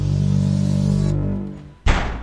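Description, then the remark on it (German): A low, steady humming drone fades, then near the end a door suddenly slams shut with a loud, heavy bang whose rumble lingers. “Wie ist die Tür jetzt auf einmal so zugefallen?”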